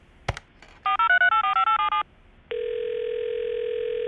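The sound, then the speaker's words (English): A phone handset clicks, then a quick run of about nine keypad dialing beeps, followed by a steady, loud electronic calling tone that continues to the end. No one speaks. The call is placed to reach the boss's husband, who handles the payroll and is at a conference. “Can you get him on the phone? Sure. He's at a conference, but let me try and get him.”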